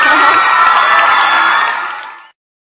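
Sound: applause and cheering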